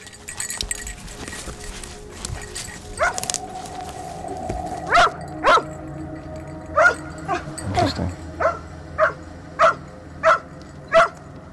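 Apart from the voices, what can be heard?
dog barking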